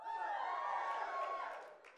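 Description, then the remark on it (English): A group of voices, asked to make a joyful shout as in Psalm 100, lets out a joyful, sustained shout together, a bright mixed cheer that holds steady for over a second before trailing off. “Could somebody give me a joyful shout, please?”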